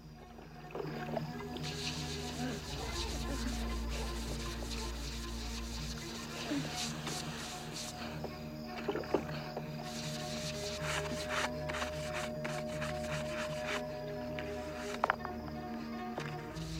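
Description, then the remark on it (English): Rapid, rough, frantic scrubbing of bloodstains from soaking wet flagstones beside a pool, continuous and busy with scattered sharp scrapes and knocks, over a low steady hum throughout. “Lucas drags David's body out of the water and along the poolside while Isabel frantically scrubs bloodstains from the soaking flagstones.”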